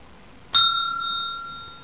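A single bright bell chime, the page-turn signal in a read-along of the book Josh and Scruffy, rings out clearly, struck once with a sharp attack and then sustaining a clean ringing tone that slowly fades over a quiet background.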